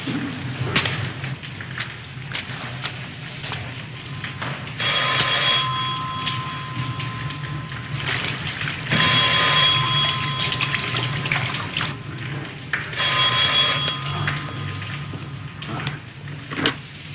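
A telephone rings three times at steady intervals, each ring a bright trilling burst over a constant low rumble and hiss, with no one speaking.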